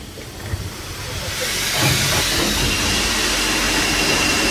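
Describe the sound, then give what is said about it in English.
A loud, steady roaring hiss of steam venting from a cold steam locomotive's drain cocks at the bottom of the cylinders as it edges forward, swelling in after the first second and holding strong, with low rumbling mechanical noise underneath. “Yeah, the engine's still cold, so I'm blowing out the steam through the drain cocks at the bottom of the cylinders.”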